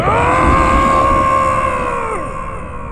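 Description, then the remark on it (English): A human voice imitates a huge bear roar: one loud, gritty, sustained bellow holding a steady pitch for over two seconds, then sliding downward as it fades. “And this huge bear roar goes out.”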